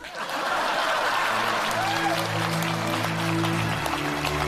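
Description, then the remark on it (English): A crowd breaks into steady, sustained applause that fills the whole moment, with scattered laughter and indistinct voices mixed into the clapping. “Please clap.”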